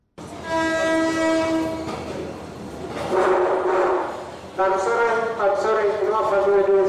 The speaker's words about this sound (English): It's 12 midnight at Harare train station, and the railway announcer finally announces the train set to take passengers that have been waiting for it for hours without any explanation.